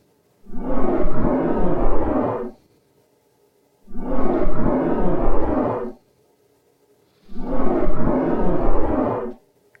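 Three long, deep roaring calls, each lasting about two seconds, separated by short silences; the growling vocalizations sound loud and aggressive, with no talking.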